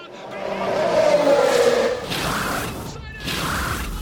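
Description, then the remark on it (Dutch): Loud race car engines roar and whine at high revs, followed by two sharp whooshing pass-bys, as if cars are speeding by on a track. “Ik ben verslaafd aan de ronkende motoren en de spanning en dynamiek.”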